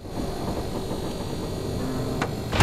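The heavy mechanical door of an armoured vehicle filled with bodies of the dead grinds slowly shut over a low, steady motor rumble, with a sharp metallic click just before a final heavy thud.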